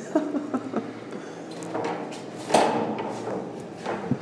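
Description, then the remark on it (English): A door at the top of the stairs on the 31st floor of a building is opened with clunky handling noises and a sharp knock or rattle midway, followed by softer scraping and rustling, with no voices. “Oh, then I'm coming to a door.”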